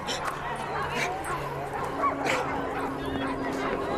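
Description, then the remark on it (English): A pack of sled dogs barks and yips excitedly in a busy chorus, with whimpers mixed in, steady throughout, while people talk indistinctly in the background. “But of course, this weekend is just one within the whole year, and if you talk with any of the participants, you quickly come to understand that the dogs are pretty much the centre of their life for the whole calendar year.”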